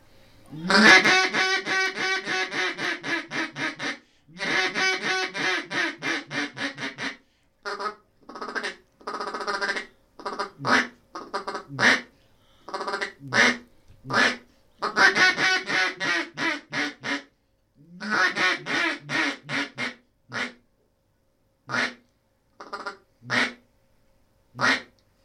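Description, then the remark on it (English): A wooden duck call with a tone board and a cellulite reed is blown, loud: long rapid runs of raspy quacks alternate with short bursts and single, spaced-out quacks, with no talking throughout. “Could you do all of those just in short order without talking?”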